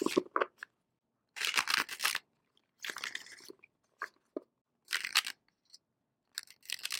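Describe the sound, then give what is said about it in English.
Cards from a Robin Wood Tarot deck are shuffled for a monthly tarot forecast in several crisp, papery bursts, each lasting under a second and separated by short quiet pauses; no one speaks. “We're going to shuffle the cards now, get ready for the forecast.”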